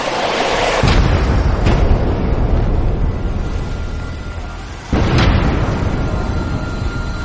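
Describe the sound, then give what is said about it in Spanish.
A Japanese torpedo strikes the port side of the U.S. ship Strong on 5 July 1943 in the Pacific: a massive explosion erupts with a deep roar that rumbles on, then a second heavy blast hits a few seconds later, nearly splitting the ship in half. No voices. “Un torpedo japonés choca con la zona de babor del U.S. Strong.”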